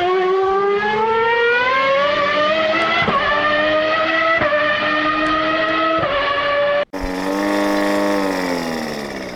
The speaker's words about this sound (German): Gerade hören wir ein altes Auto. Vielleicht könnt ihr es hören. Das Auto ist silber, hat die Nummer 8 und hat kleine Reifen.